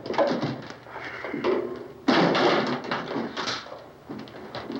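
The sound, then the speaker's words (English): Chairs are dragged together across a hard floor in a steady run of rough scraping and bumping noises, with a louder, heavier scrape about halfway through. “Drag a couple of those chairs together.”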